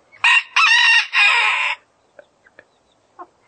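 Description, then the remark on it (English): A rooster crows loudly, one harsh multi-part cock-a-doodle-doo lasting over a second, followed by a few faint scattered clucks from chickens. “And, of course, the rooster announces that he's here and he's taking care of things.”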